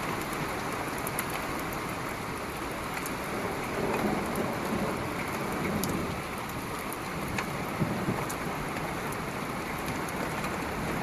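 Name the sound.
thunder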